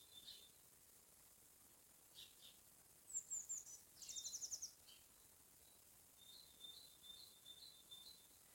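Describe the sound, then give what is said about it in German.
Faint birds chirping outside, heard through an open door: scattered high tweets and a couple of quick trilled bursts in the middle, with softer twittering toward the end over a quiet background hiss. No one speaks. “Die zwitschern schön.”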